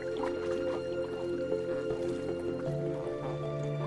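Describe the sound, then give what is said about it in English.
Soft wet squishing and dripping as a flamingo's beak dips into shallow lake water to feed on tiny algae, repeated irregularly beneath a steady, low tonal drone. “A flamingo dunks its beak.”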